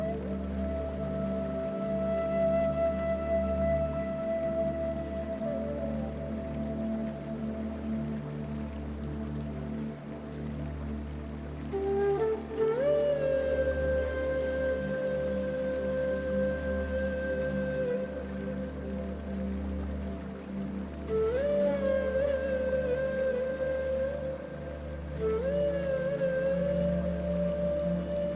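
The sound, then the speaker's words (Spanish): A steady, unbroken rush of falling water from a waterfall fills the background, overlaid by soft sustained tones that slowly rise and glide in pitch, with a gentle low throb pulsing underneath. “La brisa acaricia tu piel mientras el sonido de la cascada crea una melodía que calma tus pensamientos.”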